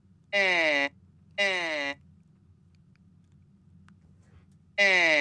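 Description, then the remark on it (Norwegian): Three sustained, buzzy vowel-like tones from air blown through the reconstructed vocal tract of the mummy of Nesyamun, a priest from 3,000 years ago, each under a second, with a slightly falling pitch and rich harmonics, separated by quiet gaps over a low hum. “Det den lyden som kommer når man blåser gjennom stemmeapparatet hans.”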